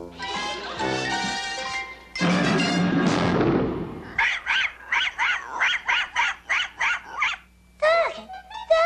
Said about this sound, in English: Doggy! Oh, you have a dog? Yes, our octopus. We call him Creepy.